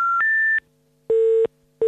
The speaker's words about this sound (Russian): На нем 7 непринятых вызовов от деда. Набирает номер.